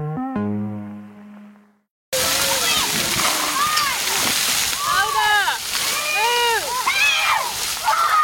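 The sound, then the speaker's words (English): A brief musical tone gives way to steady water splashing and spraying at one of the largest splash pads in Kentucky, with children shouting and squealing throughout over the constant rush. “The countdown to a splashdown at one of the largest splash pads in Kentucky.”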